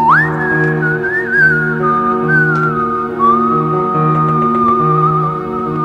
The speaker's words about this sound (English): and back then he submitted some entries which had some really cool whistling.